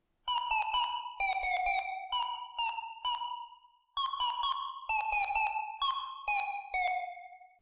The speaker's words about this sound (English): It has to be something that is long and winding, a sustained sound, like a whistle. Here's the little melody I came up with.